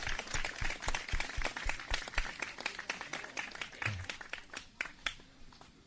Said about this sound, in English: Okay, please give them all a big round of applause. Давайте поаплодируем им.